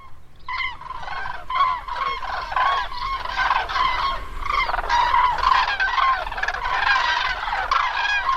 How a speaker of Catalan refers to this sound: O aproximadament, perquè aquestes són grues, ocells, grues, que marxen ja.